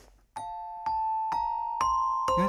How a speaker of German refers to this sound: Aber ich habe mein kleines Glockenspiel hier. Und ich spiele es dir vor